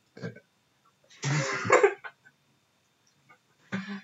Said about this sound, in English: Is that how you're going to seduce people? Is you burp directly into their face?